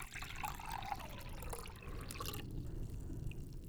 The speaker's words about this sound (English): Pour the water into the cauldron, in the whole jar.